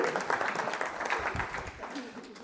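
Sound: audience clapping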